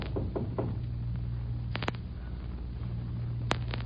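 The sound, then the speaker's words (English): Several sharp knocks on the door of a garage in a town, a soft cluster early on, then louder isolated raps at uneven intervals, all over a steady low rumbling hum with no talking. “We knocked on the generous door of a garage...”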